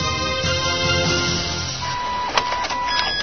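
An office printer whirs and clatters mechanically, its motor winding down as it runs out of paper, before a steady electronic alert tone sounds near the end. No voices are heard.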